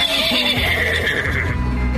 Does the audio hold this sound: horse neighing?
yes